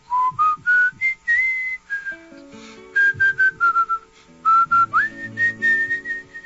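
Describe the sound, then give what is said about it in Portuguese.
Someone whistles a folk melody, clear and steady, moving through held notes and quick upward slides, with a soft, low instrumental accompaniment underneath and no talking. “relaxar bem o corpo e começar a assobiar a Poçadenha Linda”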